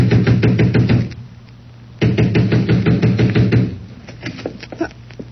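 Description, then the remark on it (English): Loud, rapid pounding on the front door of Mrs. Larson's house in two sustained bursts, with a short pause between them, followed by a few lighter scattered knocks. No voices. “I ran to the front door and began pounding.”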